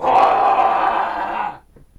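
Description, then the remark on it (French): A single loud, rough roar of a lion in the African savanna at a seagull, sustained for about a second and a half before cutting off into near silence. It sounds steady, with no talking over it. “Le lion poussa un rugissement.”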